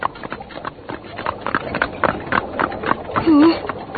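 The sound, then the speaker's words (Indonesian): Horse hooves clip-clop steadily as a horse-drawn carriage rolls along after the coachman jerks the horse's reins, the rhythmic clatter continuous, with a short wavering tonal sound rising briefly near the end. “Kusir kereta menyentakkan tali kuda.”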